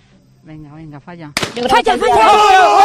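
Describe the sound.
A single sharp shotgun blast cracks out midway at a trap shooting competition, preceded by a voice and followed at once by loud, excited shouting and crowd noise.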